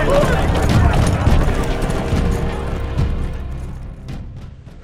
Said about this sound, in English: He didn't have a chance to find out, because that was when people began to yell and scream, hoofbeats thundered in the street, and the sudden roar of gunshots filled the air.